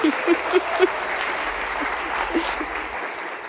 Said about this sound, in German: Ich finde, 7 Jahre Sola-Mitarbeit sind Applaus wert.